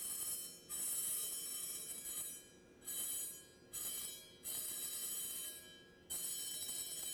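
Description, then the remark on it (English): Repeated bristly brushing strokes scrape sand off a brass surface to clear a clean spot, about five hissing passes with brief pauses, while faint metallic ringing tones hum steadily underneath. Moderately loud, with no voices. “So I have to brush a little bit to get a clean part of the brass.”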